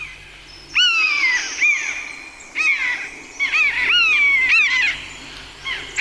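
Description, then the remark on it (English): A common buzzard gives repeated mewing calls, high drawn-out whistles that slur downward, several in quick succession and sometimes overlapping, fairly clear against a quiet background with no talking. “You get that mewing sound that they make, which I think is a beautiful sound.”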